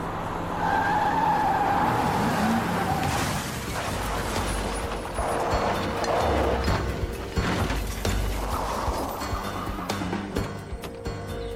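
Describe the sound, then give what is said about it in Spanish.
A car skids with a high tire squeal over loud engine roar, then rams a police patrol car with rough, clattering mechanical noise of the collision, continuous, with no one speaking. “embistió la patrulla.”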